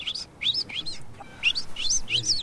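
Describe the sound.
A person whistles an imitation of the call a goldfinch made when it was very young: quick, high, twittering chirps in two bursts separated by a short pause, fairly loud over a faint background hiss.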